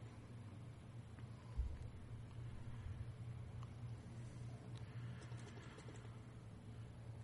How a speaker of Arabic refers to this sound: المروحة طفوها بلا صح.